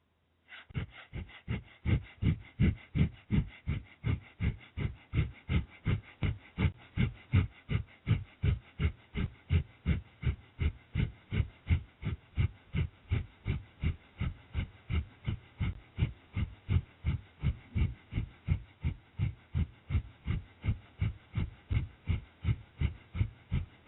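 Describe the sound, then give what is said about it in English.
Rapid, rhythmic breath-of-fire breathing: steady, forceful huffs through the nose at roughly two per second, evenly paced and sustained without pause, with no talking. “Or you can substitute long, deep breathing for breath of fire until you feel ready to switch to breath of fire again.”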